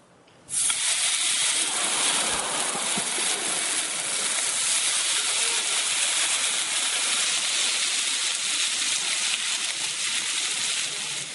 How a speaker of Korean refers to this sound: 아까 그 세 장면에서 나온 소리는 전부 삼겹살 굽는 소리입니다.